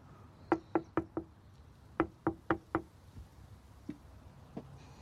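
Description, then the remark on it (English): Two quick bursts of knocking on the door of a little house, four crisp raps each separated by a short pause, firm, followed by a couple of faint, isolated taps in otherwise quiet surroundings. “He takes a moment before knocking.”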